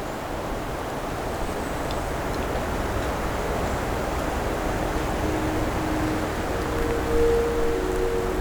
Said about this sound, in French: Et le vent, le bruit de fond du vent. Un peu comme les vagues d'une mer inconnue.